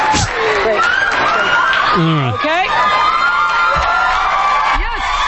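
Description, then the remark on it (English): A TV talk show studio audience screams and cheers loudly and continuously as each is given a new Pontiac G6 car, with many overlapping high-pitched shrieks and whoops, while a man's voice speaks briefly over the din. “How can you stand that? All that screaming.”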